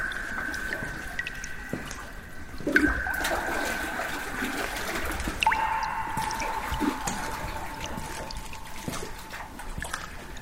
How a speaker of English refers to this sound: The sound of water can also be heard. Here, there is a stream too.